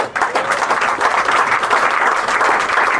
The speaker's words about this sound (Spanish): De los cuales ahorita acaba de ser nombrado uno de ellos como gerente del PDVSA de Plaza de Toro, subgerente, perdón, del PDVSA de Plaza de Toro, para el cual yo pido un aplauso.